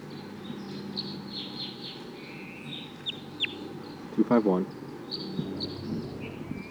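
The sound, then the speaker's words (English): A wild bird coming down calls in thin, high chirps scattered throughout, with a brief louder run of throaty, clucking notes near the middle, all over a steady low hum. “That wild bird is coming down now.”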